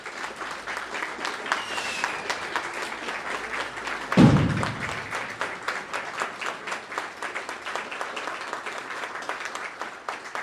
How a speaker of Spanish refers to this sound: Esto es un poco de nuestra fiesta, soltar una salva porque decimos estamos de fiesta. Estamos de fiesta y hay que aplaudirle a esa fiesta.